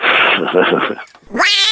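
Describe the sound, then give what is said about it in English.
A cat meows loudly, a drawn-out wail followed by a brief pause and then a second rising, strained meow. “I mean, honestly, I can't even move in here for cats.”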